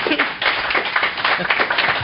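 An audience at a panel on the last day of Grand Con applauds the panelists with steady, dense clapping that holds at an even loudness throughout, a broad crackling wash of many hands with no pauses.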